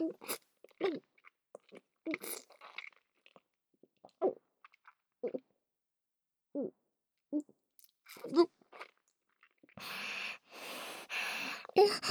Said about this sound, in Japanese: 飲んでる。喉、鳴ってるよ。ゴクゴクって。